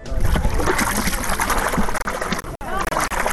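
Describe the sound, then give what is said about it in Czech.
Water trickles and splashes steadily at a mud lake in the Ovča neighbourhood of Belgrade, a dense, continuous wet churning with brief dips near the end, while people's voices murmur underneath. “Odakle ide ova voda?”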